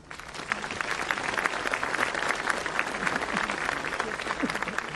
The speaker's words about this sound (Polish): Na zachętę jeszcze raz, ostatni raz oklaski.